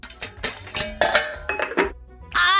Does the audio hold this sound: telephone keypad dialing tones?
no